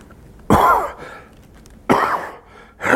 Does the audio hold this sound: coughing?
yes